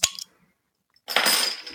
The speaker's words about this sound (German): Und bevor jetzt unser schöner Cyber-Cyber-Cyber-Trainer kommt, mache ich mir ein Bier auf, weil das brauche ich jetzt echt.